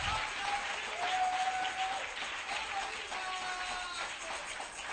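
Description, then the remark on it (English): An audience in church claps hands in a steady, dense burst of applause lasting several seconds, with a few faint sustained tones threading through the crowd noise. “Oh, clap your hands in the house of God.”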